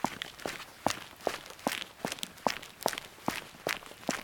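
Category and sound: sound effect, hurried footsteps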